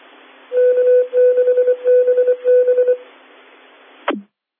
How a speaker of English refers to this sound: There's some Morse code, Mike. What would that be?